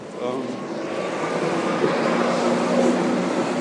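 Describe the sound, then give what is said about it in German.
A tram rolls past in light rain with a steady, loud rumble and a low mechanical whine that holds through the whole stretch, and faint voices may sit underneath. “Ich bin auch schon, oh, die Straßenbahn, das kommt hier.”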